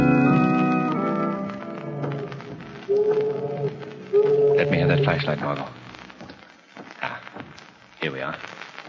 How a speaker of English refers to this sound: These old empty tenements are built on piles over the river. It's the tide rushing out to sea.